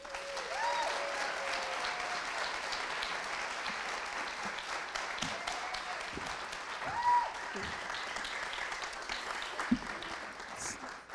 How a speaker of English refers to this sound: So please give a round of applause for Alia.